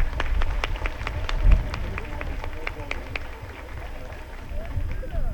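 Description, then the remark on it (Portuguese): An audience applauds the choir, many hands clapping in a dense, irregular patter that holds steady for about five seconds at moderate loudness, with a low rumble underneath. “Eu acho que eles também merecem uma salva de palmas, né?”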